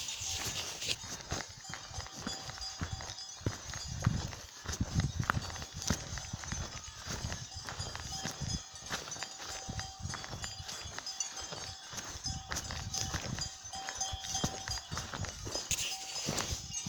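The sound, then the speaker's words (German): Cows shuffling about outdoors on an alpine pasture, their hooves thudding and clopping on the ground in an irregular, steady stream of steps, with a faint ringing tone drifting through the background. “Kühe unter sich, da stört der Wanderer nur.”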